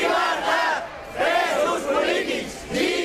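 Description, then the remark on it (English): A large crowd of demonstrators in Barcelona, supporters of the ousted Catalan regional government members, shouts "Liberty for political prisoners" in unison, rising and falling in loud rhythmic bursts of chanting that swell and fade several times. “Liberty for political prisoners, shouted demonstrators in Barcelona.”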